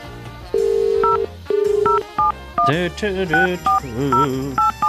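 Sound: telephone keypad dialing tones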